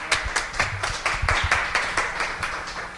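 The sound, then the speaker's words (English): A crowd claps steadily to give the Lord a cheer, producing a dense, rhythmic patter of hand claps at a moderate, even loudness for a few seconds, with no talking over it. “Let's give the Lord a cheer, huh?”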